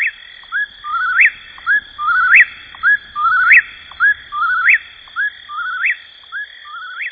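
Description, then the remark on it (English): A whippoorwill sings its three-part whistled call over and over in a quick, steady rhythm, loud, with a constant high insect drone in the background. “It remains, as Thoreau described, a bird of the night side of the woods, where you may hear the whippoorwill in your dreams.”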